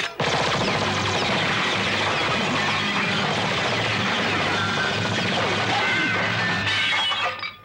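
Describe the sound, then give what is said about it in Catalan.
A sustained, loud barrage of rapid machine gun fire as a young woman shoots at the bottles in a bar, mixed with crashing and shattering glass bottles, a dense, relentless clatter of breaking that runs for several seconds before cutting off abruptly. “La noia alça una metralladora i dispara contra les ampolles.”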